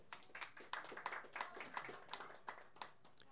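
An audience applauds for a few seconds, many hands clapping in a dense, uneven patter of sharp claps at a fairly soft, steady level, with no talking.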